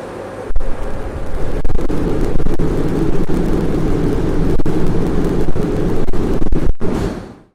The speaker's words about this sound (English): And you can actually hear what the world's most energetic fusion reaction sounds like because they somehow got a camera that could survive the plasma and released a video.